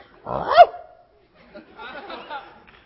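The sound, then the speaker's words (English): A person gives one loud, barking woof in imitation of a sheep dog, followed by a quieter stretch of muffled voices or rustling. “I'm a sheep dog.”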